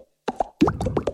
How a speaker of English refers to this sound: This is an Aero. And this is the sound of its minty bubbles.